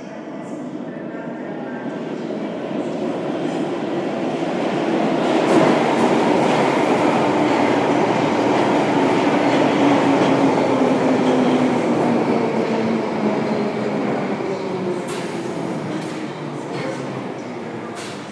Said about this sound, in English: I can feel a little bit of air movement, which may well mean there's a train coming. Hopefully. I can hear the whooshy noise. I'll let you listen.